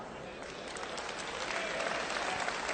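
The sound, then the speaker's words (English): An audience breaks into steady applause, a dense wash of many hands clapping that swells slightly louder partway through and continues without pause. “So train your replacement now. Clap.”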